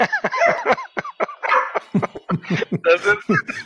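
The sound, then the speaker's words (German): A small office watchdog barks in a rapid, uneven series of short, sharp yaps and woofs, fairly loud and continuing for several seconds with only brief gaps between bursts. “Ja, das ist Fox, mein Hund hier”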